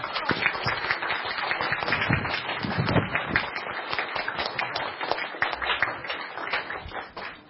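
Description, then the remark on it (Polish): Sustained applause from an audience, many hands clapping in a dense, steady wash that holds fairly loud for several seconds before tapering slightly at the end. “Myślę, że ogromne brawa się należą.”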